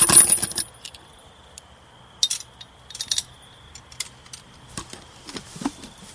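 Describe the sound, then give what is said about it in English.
A bike lock being fastened: a burst of metallic jangling at the start, then scattered clinks, rattles and clicks of chain and metal parts, with no talking. “First, I gotta lock up my bike.”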